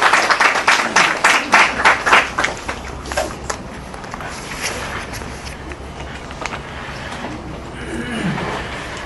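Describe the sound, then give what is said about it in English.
An audience claps for a guest speaker in a quick, dense burst that starts loud and gradually thins out, fading into a softer murmur over several seconds. “Let me request our audience to give a big round of applause”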